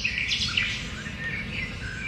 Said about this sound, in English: Oddly enough, besides all those birds, I'm not seeing too many animals here.